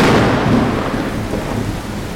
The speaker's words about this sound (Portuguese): Tava chovendo. E olha, eram pancadas de chuva bem assustadoras, viu? Que foram retratadas pelos cronistas da época como os horrores do dia 5.